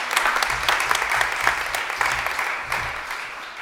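A crowd applauds steadily, many hands clapping in a dense, sustained patter that holds fairly loud throughout, with no voices over it.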